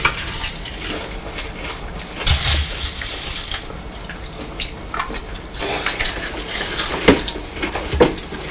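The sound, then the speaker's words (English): Crunchy chewing of breakfast food: a steady, crackly crunch with irregular sharper bursts and brief snaps scattered throughout, moderately loud, with no talking. “We're both making a nice crunchy sound this morning, aren't we?”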